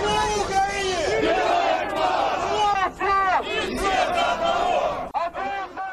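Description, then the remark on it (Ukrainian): A large crowd at a nationalist march in Moscow's Lyublino district chants and shouts in unison, supporters of so-called Novorossiya calling the slogan "Russian Crimea – window to Europe", voices swelling in rhythmic waves, loud and continuous with a dense roar of many people throughout. “В Любліно майже пліч-опліч виступали прихильники так званої Новоросії, які вигукували гасла «Руський Крим – вікно в Європу», і ті, хто підтримує Україну.”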